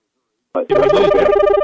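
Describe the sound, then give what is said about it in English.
Telephones ring out loudly, a steady pulsing electronic trill that starts abruptly after a brief silence, with a voice mixed in underneath. “Oh, I hear phones going off.”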